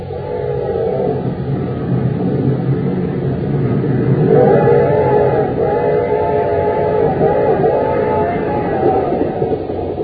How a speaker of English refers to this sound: We find them now on a fast express train roaring into Acme City.